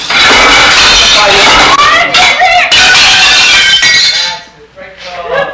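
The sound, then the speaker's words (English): Dishes, eggs and dry spaghetti are hurled onto a kitchen floor in a loud, continuous clatter of breaking crockery and clinking shards for about four seconds, with a voice beneath, then the noise fades to a few scattered tinkles. “In the kitchen, Connie hurls dishes, eggs, and dry spaghetti to the floor.”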